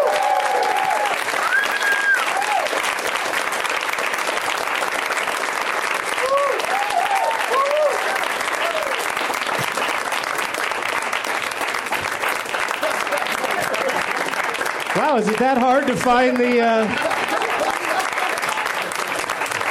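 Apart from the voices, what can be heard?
studio audience applauding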